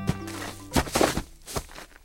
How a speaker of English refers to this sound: And sometimes it sounds like the birds are providing a laugh track for your mistake. That's the American crow's rattle call. It's uncommon, and researchers aren't sure what it means.